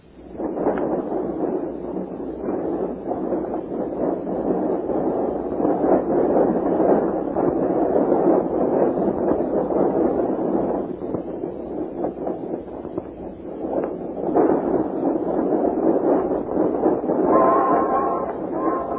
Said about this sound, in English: That was a train passing by.